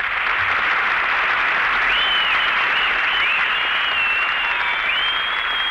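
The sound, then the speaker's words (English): A sustained wave of audience applause on a program, greeting a woman performer, dense and steady, with a few whistles rising above the clapping for the whole stretch; no one speaks. “You got, you got more applause than I did.”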